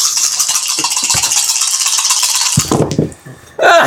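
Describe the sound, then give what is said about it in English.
Dice are shaken in a steady, dense rattle for a couple of seconds, then clatter out in a few sharp clacks for an investigation roll, followed by another brief burst of rattling. “I will let you throw in a few more dice.”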